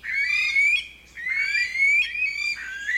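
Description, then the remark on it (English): An Aldabra rail, a flightless bird, calling loudly on its own: a run of harsh, nasal, rising squeals, three or four in quick succession with a brief pause partway through, rich in overtones. “As the only flightless bird left in the region, efforts are now underway to recognize the Aldabra rails as their own species, a move that will hopefully facilitate protections that ensure these evolutionary oddities aren't lost a second time.”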